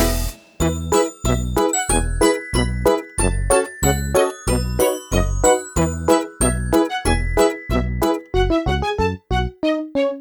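A fire truck bell rings in a fast, steady series of bright metallic dings, about two strikes per second, loud, each tone ringing briefly before the next hit. No voices.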